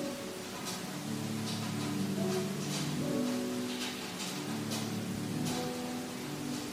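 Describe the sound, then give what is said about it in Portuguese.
Steady rain hisses evenly throughout, with scattered brighter patters of drops, while soft sustained piano notes ring faintly underneath. No one speaks. “Às vezes misturava-se com o som da chuva.”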